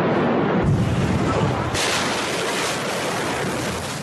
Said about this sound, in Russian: Это был взрыв, сопоставимый по мощности с тактическим ядерным оружием. Ученые потом оценят его в 2,2 килотонны. В мгновение под действием ударной волны исчезли все портовые постройки, а жилой сектор был поврежден в радиусе 10 километров.